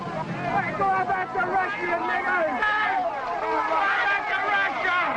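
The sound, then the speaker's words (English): A crowd of young boys yells and jeers all at once at people stopped in their cars, as spectators protest a singer's concert on September 4th, 1949. Their high, strained voices overlap into a loud, continuous clamor with no single speaker standing out. “A group of young boys here yelling at the people stopped in their cars.”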